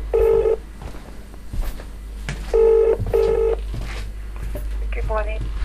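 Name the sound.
telephone dialing tones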